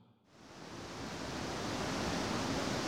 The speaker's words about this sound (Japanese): 素晴らしい滝ですね。 そうですね、いい滝ですよね。 この場所というのはどういう場所ですか？ 唐岳の中腹にあたる 唐岳、 はい、トドロキの滝という名前ですけど、非常に水質のいい滝なんですよね。